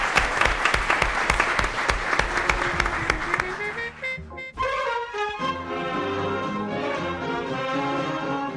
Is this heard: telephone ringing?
no